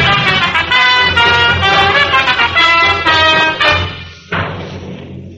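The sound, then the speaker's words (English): On a snowy, moonlit night, a car engine roars steadily with a buzzing, harmonic whine for about four seconds, then cuts out before a single sharp thump, like a car door, rings and fades away. “climbed into the car and they drove off.”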